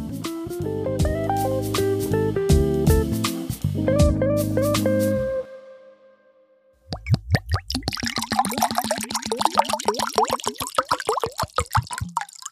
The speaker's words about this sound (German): So, das Wasser ist eingeschenkt und gerade weil die Verkostung von Olivenöl nicht einfach ist und ziemlich kratzig sein kann, braucht man einfach ein gutes Mineralwasser zum Neutralisieren.